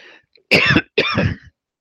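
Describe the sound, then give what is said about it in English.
A man coughs twice in close succession, two harsh, loud bursts about half a second apart, with a brief breathy sound before them and nothing else around. “I'm going to jump to a tune because I'm coughing too much.”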